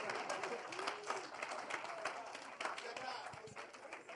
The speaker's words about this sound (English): Clap for the Lord Jesus.